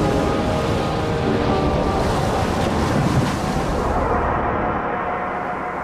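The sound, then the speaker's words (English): Loud, steady ocean surf with waves breaking and hissing spray, mixed with gusty wind, filling the whole scene without any voices. “Look at the waves, Mina. And the spray.”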